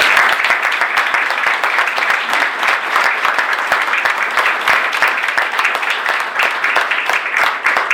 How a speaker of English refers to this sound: So how about one more round of applause?